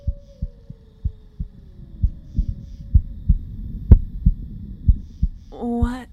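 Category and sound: human body sound, heartbeat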